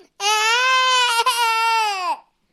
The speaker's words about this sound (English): Someone screamed and then started crying.